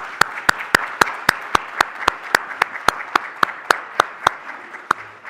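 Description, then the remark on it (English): An audience applauds for about five seconds for veterans and surviving spouses of veterans standing on Veterans Day, with one sharp clap keeping a steady quick rhythm above the softer crowd clapping before it thins out at the end. “How about a round of applause from the rest of us?”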